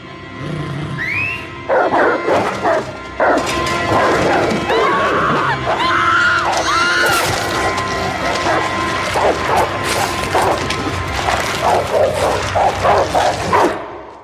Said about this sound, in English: they don't compare to the sound, of course, of a baby getting ripped apart by dogs, which is the signature sound of this episode. Let's hear that.